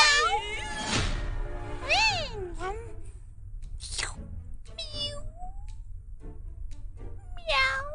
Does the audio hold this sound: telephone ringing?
no